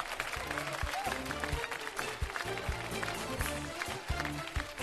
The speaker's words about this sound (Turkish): Mehmet Ali Birand'a bir alkış gönderelim. Ruhu şad olsun.